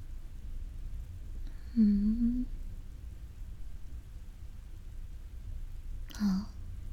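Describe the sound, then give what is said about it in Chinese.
Steady heavy rain hisses throughout during a thunderstorm outside, with a low, rumbling undertone, while two brief, soft vocal murmurs rise faintly above it. “外面打雷下雨，路都看不清，开车还是很危险的。”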